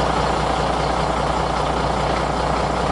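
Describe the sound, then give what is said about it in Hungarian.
A heavy bus engine, running on pure bioethanol, idles steadily, a constant low rumble with a broad mechanical hiss that stays even and unbroken throughout, with no voices. “A jármű tiszta bioetanollal megy, ugyanúgy kell üzemeltetni, mint egy dízel autóbuszt.”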